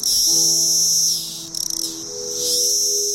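A dense chorus of periodical cicadas, the 17-year kind, in southwestern Pennsylvania, makes a loud, shrill, continuous buzz, said to reach 100 to 120 decibels, that briefly dips and flutters midway, then swells again, with a faint steady low hum underneath for the first two seconds.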